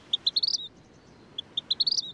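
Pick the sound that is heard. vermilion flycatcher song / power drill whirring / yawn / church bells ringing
vermilion flycatcher song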